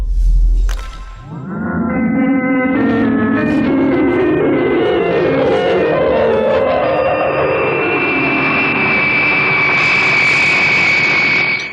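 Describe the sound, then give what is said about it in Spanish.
A loud jet engine spools up with a rising turbine whine, then settles into a steady, powerful roar with a piercing high-pitched tone, as the Albatros jet, driven by its jet propulsion engines, races at high speed away from the island of Macedonia. “Volando a una inconcebible velocidad, proporcionada por sus motores de retropropulsión activados por la RM, el soberbio jet Albatros se ha alejado de la isla Macedonia y de su incontrastable peligro.”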